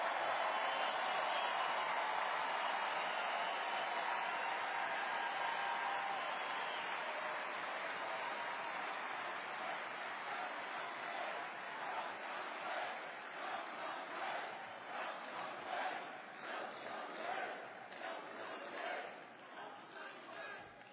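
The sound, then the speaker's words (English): A large crowd at a political speech cheers and applauds loudly for about twenty seconds in response to what the speaker just said, a dense roar of voices and clapping that swells, then breaks into rhythmic bursts of claps and shouts. “And I have to say, as a Republican, it is so nice to hear you cheering for what I just said.”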